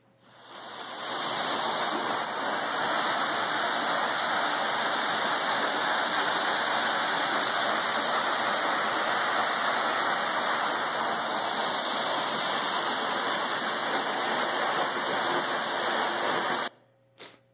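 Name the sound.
waterfall rushing water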